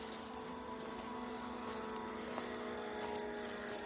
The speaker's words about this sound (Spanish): De hecho, puede que se oiga el ruido de los coches pasando por la autovía.